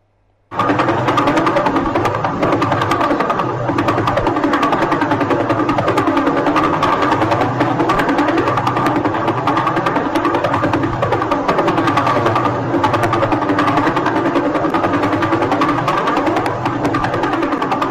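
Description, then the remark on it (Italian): A pulsar's radio signal rendered as sound, each thud or tick being one rotation of the star on its axis: a rapid, steady train of ticking thuds with a buzzy, droning tone, loud and unbroken for the whole stretch, with no voices. “Ogni tonfo, proprio detta a livello aretino, ogni tonfo, ogni ticchettio è una rotazione su se stessa della stella.”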